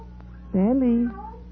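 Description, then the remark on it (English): A single loud meow from a cat called Black, lasting about half a second, rising then sliding down in pitch, over a steady low background hum. “Here, kitty. Kitty. Hey, Black, come over here.”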